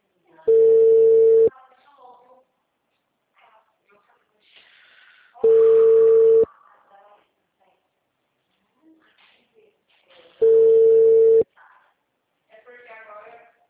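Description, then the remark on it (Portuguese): A phone line rings out with three long, steady, mid-pitched ringback tones about five seconds apart and no one picks up. Faint voices murmur in the gaps between the tones. “Famoso que não atende o telefone, gente.”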